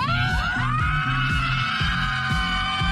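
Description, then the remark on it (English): A group of people out in the open at a football field in their local town screams at full volume, to let off steam, in one sustained, continuous roar, with loud low thumps pulsing underneath at a steady beat. “just to be out in the open at a football field in their local town, just to let off some steam, just by screaming at the top of their lungs.”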